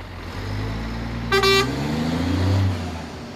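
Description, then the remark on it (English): A loaded heavy truck's engine rumbles steadily as it pulls away, departing for the ferry, with one short, bright horn toot sounding partway through over the low drone. “And once the last pallet is loaded on this particular trailer, paperwork is completed and the truck departs for the ferry and its ultimate destination, a garden centre chain in the London area.”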